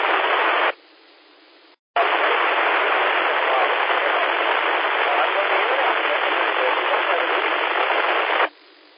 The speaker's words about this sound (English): Okay, we got a station that's trying to check in, and you're really, really far down in the white noise. I couldn't make out anything.